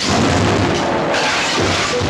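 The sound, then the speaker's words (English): A piano, pounded on as it breaks apart, collapses into wreckage with a loud, dense crash of splintering and clattering that rumbles on for about two seconds without easing. No voices are heard. “The piano collapses.”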